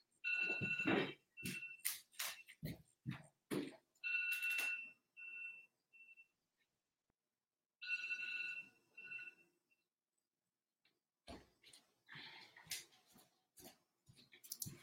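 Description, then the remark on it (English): An electronic alarm goes off during a live YouTube broadcast. It sounds in repeated bursts of bright, shrill tones mixed with clattering noise, pausing briefly midway before starting up again. It is fairly loud, with no one speaking. “Oh no, my alarm is going off.”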